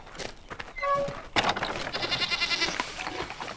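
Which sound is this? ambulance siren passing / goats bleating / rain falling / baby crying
goats bleating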